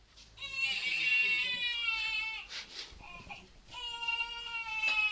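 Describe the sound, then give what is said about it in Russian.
An abandoned infant, alone in a forest, wails in two long, strained cries separated by a short break with a few smaller sobs. The crying is fairly loud, with no talking. “Опять плачет, ну куда ж я от живого-то дитя уйду?”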